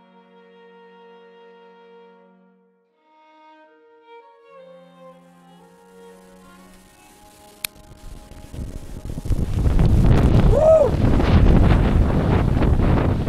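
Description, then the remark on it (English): Strong wind gusts suddenly buffet the microphone outdoors by a slate quarry cliff with a waterfall, nearly blowing the camera over, a loud rumbling roar that swells and stays heavy for several seconds after a quieter stretch, with a brief exclamation from a voice. “Thought my camera was gonna blow over there.”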